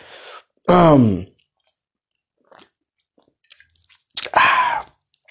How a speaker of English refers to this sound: Oh man, just took a sip of refreshing beer. So if I pause, it's because I'm sipping on a beer. Oh, very tasty, man.